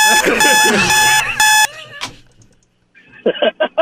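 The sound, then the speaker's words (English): An alarm clock rings in loud, harsh electronic bursts, then stops; after a short gap a few more choppy beeping pulses sound near the end. “Let me play something and you play the alarm clock.”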